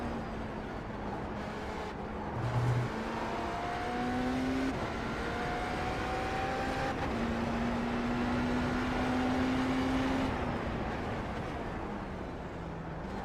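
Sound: race car engine revving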